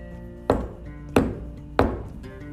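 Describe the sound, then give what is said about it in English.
Three solid knocks on a tree trunk, made as a unicorn knocks on the tree looking for a door, evenly spaced and fairly loud, each a dull wooden thud with a short ring, over a faint steady background hum and no talking. “And the unicorn walked over to the tree and did three knocks.”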